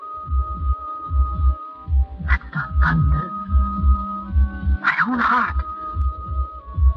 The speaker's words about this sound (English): My own heart beating.